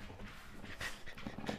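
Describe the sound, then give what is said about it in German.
A dog pants in quick, breathy huffs, a steady rhythm of soft, airy bursts with a faint whimpering tone near the end, as the household's dog comes back home. No one speaks. “Nee, es klingelt, weil unser Hund jetzt gerade zurückkommt.”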